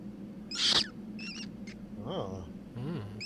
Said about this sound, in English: You hear a little squeak, squeak, squeak, squeak of rats and scurrying around. And as you awake, you see the rats are nibbling at your pack and sniffing around both you and your companion.